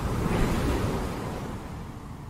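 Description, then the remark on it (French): Heavy, churning sea waves in a storm roar continuously with broad low rumble and hiss, surging loudest early then easing slightly, with gusty wind noise mixed in and no voices. “Une tempête l'a fait dévier de sa route et il est arrivé au Portugal.”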